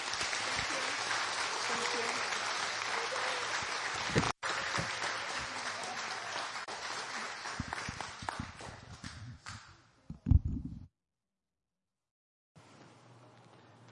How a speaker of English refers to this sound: So with that, let's give them a round of applause.